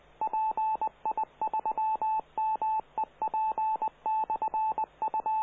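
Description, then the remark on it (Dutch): A radio repeater on the Meppelnet amateur radio net on Sunday, 27 June 2021, transmitting its signal: a clear, steady beeping tone keyed on and off in quick short and long pulses, with a faint background hiss and no voices. “laat even de repeat er even uitspreken.”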